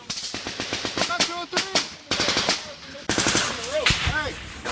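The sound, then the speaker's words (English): Rapid bursts of machine gun fire crackle in sharp, repeated volleys, loud and relentless, with shouting voices breaking through between the bursts on a chaotic battlefield in Afghanistan. “In the roar of the Afghan battlefields, were American soldiers fighting with a price on their heads, and were the Russians paying?”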